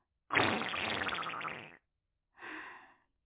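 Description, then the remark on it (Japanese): A long, loud, raspy fart is followed after a short pause by a second, briefer and softer one, with no talking. “誰も見てないし、ここなら特等席でおならかげちゃうわよ。”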